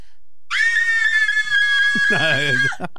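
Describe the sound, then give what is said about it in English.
A voice imitates a car alarm with a sustained, high, slightly wavering siren-like tone lasting over two seconds, joined near the end by a second voice's lower, warbling sounds. “Like, can you do that car alarm? Yeah. Do the car alarm.”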